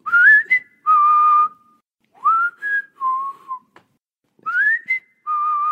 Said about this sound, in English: I like to whistle when I get afraid. Then the happiness in the whistle helps me forget to be afraid.